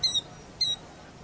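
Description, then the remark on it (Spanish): A killdeer gives two shrill, high-pitched whistled notes about half a second apart, the first slightly longer, heard alone over faint background hiss. “Y se le llama quildío por el canto que hace, el llamado.”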